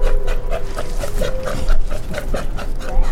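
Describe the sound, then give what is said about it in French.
A rapid, steady series of hoarse barking calls from an Australian sea lion, about a dozen in three seconds, loud, with a low rumbling background underneath. “Pas si bête, une chronique sur le monde sonore animal. Aujourd'hui, le lion des mers australien.”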